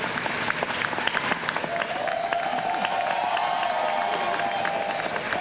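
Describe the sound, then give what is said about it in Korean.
A crowd of students claps steadily and densely, with cheers and whoops rising over the applause for several seconds without pause, as an honorary doctorate is given to a 94-year-old former World War II women's air force pilot at an aeronautics college in New York. “학생들의 박수와 환호 속에 헤이드 씨에게 명예 박사 학위증이 주어집니다.”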